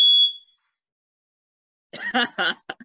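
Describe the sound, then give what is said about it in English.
A fire alarm lets out one loud, shrill electronic beep right at the start, followed by over a second of silence before a person begins speaking. “My fire alarm just went off for one beat.”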